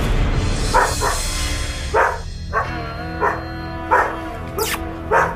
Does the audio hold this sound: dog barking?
yes